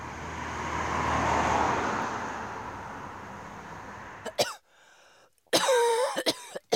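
A passing car's broad road noise swells and fades, then a neighbour woman coughs in a few sharp, raspy bursts with short gaps between them in otherwise quiet surroundings.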